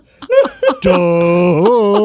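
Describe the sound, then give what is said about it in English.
A voice imitates a Hewlett Packard printer printing: two short rising vocal bursts, then a long, steady, buzzy drone that wavers in pitch near the end before cutting off. “I love when the printer stops by.”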